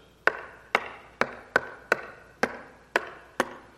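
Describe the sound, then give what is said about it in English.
A drunk roommate trying to find the keyhole knocks on a wooden dorm room door at 2 o'clock in the morning, about eight sharp, hollow raps at a slow, slightly uneven pace, each ringing briefly before the next. No one speaks. “I wondered, who is pecking on our door at 2 o'clock in the morning?”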